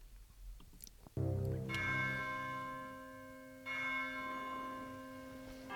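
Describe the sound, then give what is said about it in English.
Deep church bells toll twice, each strike ringing out loud and resonant with a long, shimmering decay that overlaps the next. No voices are present. “Church bells.”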